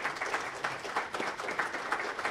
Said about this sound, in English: Let's have a final round of applause for all three of our candidates.